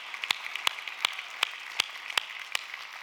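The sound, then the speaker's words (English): A church audience claps their hands together as an offering of praise to Jesus, in a steady, even rhythm, sharp unified claps landing about every third of a second over a bed of scattered, softer clapping, with no voices. “Could we give him a hand clap offering of praise?”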